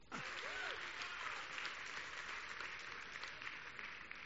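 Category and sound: crowd, audience clapping hands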